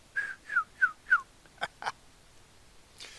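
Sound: sipping hot coffee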